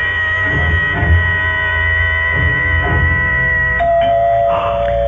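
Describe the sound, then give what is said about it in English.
A doorbell rings in one long, steady, high-pitched tone that drops to a lower sustained note near the end, over a constant low hum, with no one speaking. “It's the door.”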